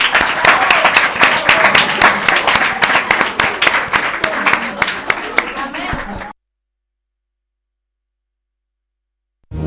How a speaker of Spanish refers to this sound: Un aplauso para ellas.